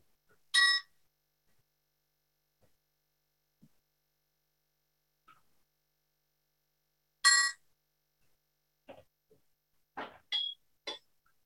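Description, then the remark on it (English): A meditation chime is struck twice, bright and clear, about seven seconds apart in near silence, marking the start and end of a moment of silent meditation, followed by a few faint small clinks and knocks. No one speaks. “We will now have a moment of silent meditation, starting and ending with a chime.”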